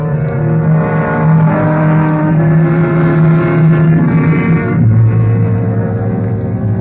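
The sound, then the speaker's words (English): A car drives steadily, its engine a loud, continuous droning hum that shifts to a lower pitch near the end, as if changing gear or easing off. No voices. “The rest of the drive was uneventful.”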